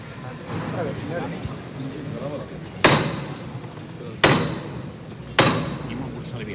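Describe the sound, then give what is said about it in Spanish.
The capataz's ceremonial hammer of the Cristo de la Sé knocks three times at the parish church door, each blow a sharp, loud, resonant strike with a short ringing decay, spaced unevenly over a steady murmur of people talking. “Toca el martillo.”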